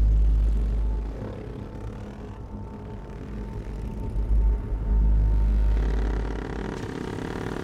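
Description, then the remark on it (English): Several motor engines rumble and drone together, a low steady roar with rising surges as a motorcycle with a sidecar and several dirt bikes rev and accelerate across desert dunes, no voices present. “A man on a motorcycle with a sidecar rides across desert dunes. Raiders clothed in black ride dirt bikes behind him.”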